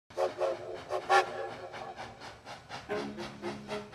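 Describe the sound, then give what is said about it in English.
A Wisconsin Central Railroad train rolls by in Stevens Point with a steady, rhythmic chugging, and its horn sounds in short blasts partway through, then a lower, sustained horn tone near the end. No one speaks. “The Wisconsin Central Railroad came to Stevens Point.”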